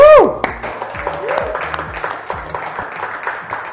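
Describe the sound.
An audience claps steadily for a few seconds, a dense, even patter of many hands with faint murmuring voices mixed in; a brief falling tone sounds at the very start.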